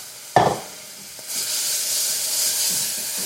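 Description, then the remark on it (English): A sharp splash as water is added to brown sugar cooking in a hot pan to make candy, followed a moment later by a loud, steady sizzling hiss that builds and holds, bright and crackly with no talking. “I'm going to put water in here because I'm making candy again.”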